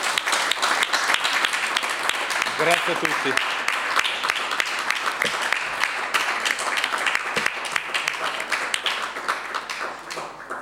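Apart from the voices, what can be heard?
audience applause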